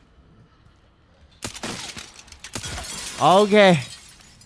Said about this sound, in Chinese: 我哋玩摩天大厦，脚下嘅玻璃极为脆弱啊，要谨慎前进啊。不过咧，射碎敌人脚下嘅玻璃可以令到佢哋堕落。